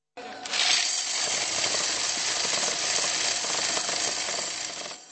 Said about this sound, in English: Many stuffed Czech crowns, euros, and occasionally American dollars into the water jugs the band used to collect donations. And of course, there were plenty of coins to count.